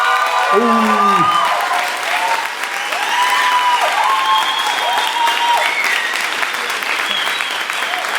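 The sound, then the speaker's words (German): Sustained audience applause in Kreuzberg, clapping for 'Industriearchitektur' in an applause vote: a dense steady wash of clapping at an even loudness for the whole stretch, with a few cheers and whoops rising above it near the start. “Euer Applaus für die Industriearchitektur.”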